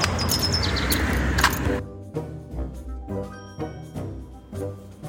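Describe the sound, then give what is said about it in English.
Birds chirp outdoors during a walk, in short, repeated bursts, fairly faint against a steady wash of ambient noise that drops away partway through, leaving scattered calls and a low background hum. “But I did want you to hear some of these birds, because they're birds.”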